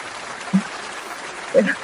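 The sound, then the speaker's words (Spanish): Studio audience applause from a money-prize game show, a dense and steady wash of many hands clapping, with a couple of brief louder bursts, like cheers, rising out of the crowd. “Pero estos aplausos salen de un programa de ganar dinero o algo así, ¿no?”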